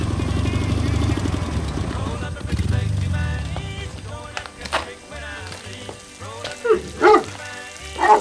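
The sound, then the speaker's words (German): An old motorcycle approaches from a distance, its engine rumbling loudly, then settles into a slow, uneven putt-putt idle as it comes to a stop in front of a farmhouse, with a dog barking a few times near the end. “Dann näherte sich aus der Ferne ein altes Motorrad und kam vor dem Farmhaus zum Stehen.”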